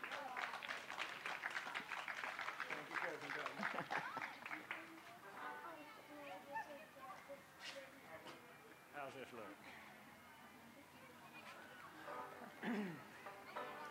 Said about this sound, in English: Let's clap him onto the stage.